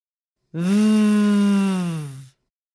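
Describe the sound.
A person demonstrates the voiced V sound, biting the bottom lip and forcing air out to hum like a bee. The steady, buzzing "vvv" is held for nearly two seconds at a low, even pitch, loud and unbroken, then stops abruptly. No other talking is heard.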